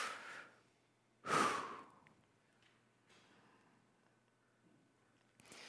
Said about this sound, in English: But the word there, it's only used once in the entire New Testament, but when it's used outside of the Bible, it's used as breathing, maybe sort of a deep breathing, and actually includes the inhale.